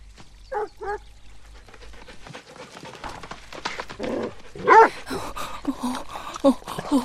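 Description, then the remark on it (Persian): A male dog lets out a couple of short barks, then whimpers and whines in bursts, with some background shuffling and faint voices. “اون اینجاست؟ همون سگه؟ همینطوری نگهش دار، انگار میخواد سلام کنه.”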